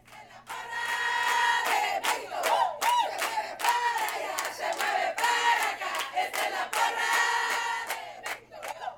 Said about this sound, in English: These parents aren't cheering for just any Little League baseball team. They're cheering for Mexico. For just the third time in history, a Tijuana Little League team is representing Mexico later this month in the Little League World Series.